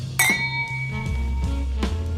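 Two bright clinks of an empty glass, one near the start and another near the end, the first leaving a clear ringing tone that hangs in the air over a low, steady background hum.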